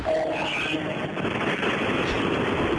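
Steady, loud vehicle rumble heard through a narrow, tinny phone line, a continuous roaring drone with no breaks, from a caller riding in a car with the windows down and the air off on Route 90.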